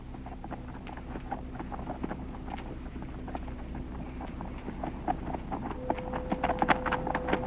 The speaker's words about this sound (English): Look at that horse riding away from Ma Holcomb's place